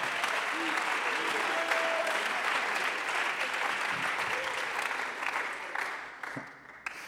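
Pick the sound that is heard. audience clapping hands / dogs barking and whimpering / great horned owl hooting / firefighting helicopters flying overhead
audience clapping hands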